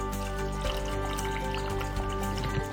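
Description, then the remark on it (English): About a cup and a half of a water mixture pours steadily into a blender jar for a few seconds, a continuous trickling splash over a low, constant background hum, with no one talking. “And then we're gonna add around about a cup and a half of the mixture from the water.”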